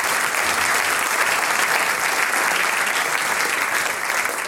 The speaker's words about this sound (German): Ja, wir freuen uns auf südlich von Mur und Mürz, meine Damen und Herren, die … jetzt beim Sänger-Musikanten-Treffen. Großen Applaus